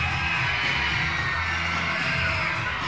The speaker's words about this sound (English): Hear the kids screaming. It's an education day. And those who are left are making some noise. Well, about half the crowd has gone back to school.